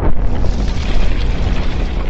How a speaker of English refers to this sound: You feel the terrible rumble from deep in the belly of the earth. Rumble that strikes fear into every living beast. You hear the walls begin to scream. You hear the rumble of distant thunder, albeit beneath you.